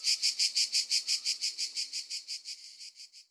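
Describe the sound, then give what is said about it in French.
Cicadas chirp in a steady, rapid pulse, about five shrill bursts per second, close and clear at first, then gradually fading away. No voices. “Chapitre 1. Au pays des cigales.”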